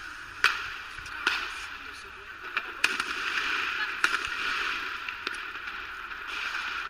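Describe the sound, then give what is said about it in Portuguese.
Gunshots crack out at irregular intervals, about half a dozen sharp reports standing out over a steady background hiss of outdoor noise, as people fire shots in the street. “Eu nem cheguei lá, eles estão dando tiro.”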